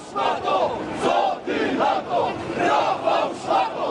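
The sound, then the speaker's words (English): A large crowd of neo-Nazi marchers in the streets of Warsaw, Poland, on Polish Independence Day, yells and shouts "Kill the migrants at the border" together in loud, surging waves. Many voices overlap into a dense, rhythmic roar with brief dips between bursts. “This time, neo-Nazis were all yelling and shouting, "Kill the migrants at the border."”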